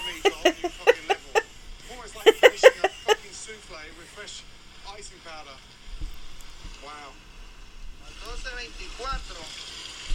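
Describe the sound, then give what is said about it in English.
Cement being mixed by a man into chopped coconut as part of a chemical process for making cocaine: a quick series of gritty scraping strokes in two rhythmic bursts, followed by people talking over a low, wet background rumble. “First, he adds cement to the chopped up coconut.”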